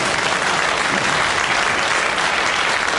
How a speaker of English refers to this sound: Isn't that good? Applause, applause.